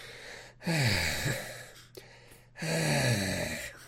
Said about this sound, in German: Immer dieses Schnaufen, als ob das irgendwas noch besser machen würde.